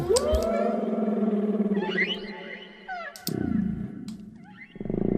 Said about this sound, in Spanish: esta vez sí tenemos una referencia que hay que intentar imitar. Vamos a intentarlo con la ballena azul.